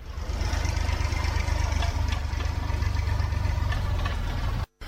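A tractor engine on the country paths of Vodičevo at harvest time idles steadily, a loud, low chugging rumble with a knocking pulse that holds almost unbroken for the whole stretch, then cuts out abruptly at the very end.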